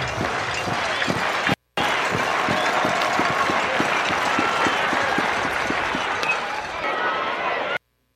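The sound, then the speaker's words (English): A packed, full-house stadium crowd at a baseball game between Ole Miss and Mississippi State roars continuously in a loud, dense wash of cheering and voices, with steady rhythmic thumps of clapping or stomping running underneath throughout. “Listen to that crowd.”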